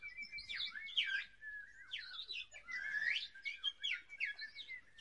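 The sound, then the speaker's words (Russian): Birds sing continuously in a summer forest, bright chirps and warbling trills overlapping through the whole stretch, clear, with a faint low rumble of outdoor background beneath. “Стояло лето, и в лесу пели птицы.”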